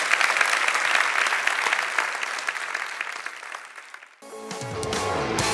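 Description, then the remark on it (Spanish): A church audience at Iglesia La Roca applauds the Lord loudly after a sermon, a dense wash of clapping that fades over about four seconds before it cuts off and music starts in. “Si Dios le abre en ese día, de un aplauso al Señor que se lo merece, amén.”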